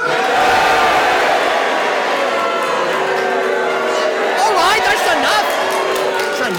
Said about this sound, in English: I would say the first impact I got was a boo.